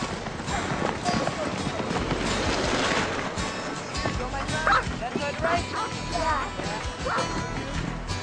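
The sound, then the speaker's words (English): A pack of sled dogs pulling a dog sled barks and yips excitedly and continuously, loud, over a steady rushing, scraping background noise as they run. “It's a weird toboggan. It's a dog sled. Look at all those tails.”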